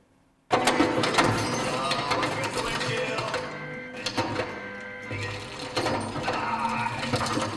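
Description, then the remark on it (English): A hailstorm pounds down: a dense, loud roar of countless rapid impacts that starts abruptly and continues steadily, peppered with sharper cracks and louder bursts throughout. “I'm going to show you a little bit of video of some incredible hailstorm.”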